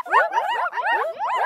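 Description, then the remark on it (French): A puppy barks in a quick run of about four high, whiny yips, fairly loud, with no pauses of silence between them. “Le bruit que j'aime bien, le bruit du chiot.”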